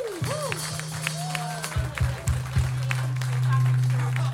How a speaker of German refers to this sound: ich bitte einen riesen Applaus für ihn.